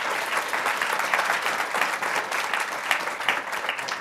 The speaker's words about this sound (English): Everybody, let's give Margo a big round of applause.